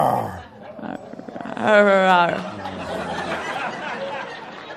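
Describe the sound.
A person gives a short, loud imitation of a roar, a strained voiced growl lasting under a second, surrounded by light laughter and background chatter.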